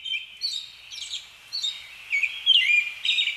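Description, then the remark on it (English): An American robin sings in the dead of night outside a door in Bethlehem, keeping it up for hours: a steady run of clear, high warbled phrases and chirps repeating every half second or so, with a bright, slightly louder burst toward the end and no other sounds. “That is the American robin, specifically the particular American robin that starts singing in the dead of night outside my door, perhaps influenced by the artificial lighting in the streets of Bethlehem.”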